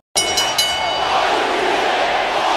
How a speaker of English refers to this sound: And the crowd already beginning a chant. A pro Jericho Y2J chant.